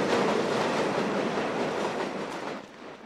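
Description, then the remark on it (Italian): A regional train travelling through Tuscany from Pisa to Florence rattles steadily along the rails, a dense, continuous clatter of wheels and carriage noise, easing slightly toward the end. No voices. “Scende a Pisa e da qui, con un treno regionale, viaggia attraverso la Toscana fino a Firenze.”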